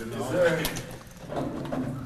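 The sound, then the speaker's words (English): A key scrapes and clicks in a school door lock that locked automatically during a lockdown exercise, as a man fumbles for the right key. A few metallic rattles and a sharp tap, while muffled voices murmur in the background. “He fumbles for his keys, and he's trying to find the right one.”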